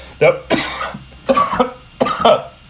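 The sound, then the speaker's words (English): Three harsh coughs in quick succession from someone at home on a Zoom call, each a short raspy burst with a brief pause between them, and no talking. “We wouldn't be coughing in the privacy of our home on a Zoom call.”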